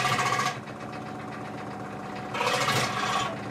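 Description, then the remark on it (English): A small hand saw cutting: two harsh, bright rasping bursts, one at the start and a longer one near the end, over a steady buzzing mechanical drone, with no talking. “With my little saw.”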